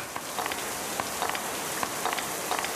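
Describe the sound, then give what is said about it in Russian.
Steady rain falls with a constant hiss, broken by brief scattered taps of drops hitting a surface at irregular intervals. No voices are heard. “Чертов дождь!”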